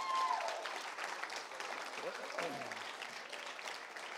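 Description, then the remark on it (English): Audience applause at a youth camp, clapping for Jesus, fills the whole stretch, a dense, steady wash of hand clapping with some voices and a brief whistle-like tone near the start mixed into the crowd noise. “Somebody give Jesus a good hand clap if you would.”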